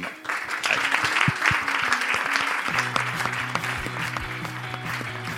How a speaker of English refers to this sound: I want to now ask you all to offer a round of applause to our two panelists.